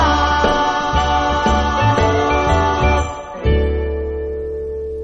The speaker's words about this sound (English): …, always a fun Christmas classic